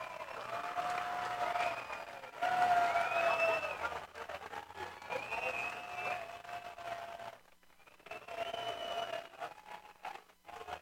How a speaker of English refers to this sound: Crowd getting some energy here prior to the 0-2.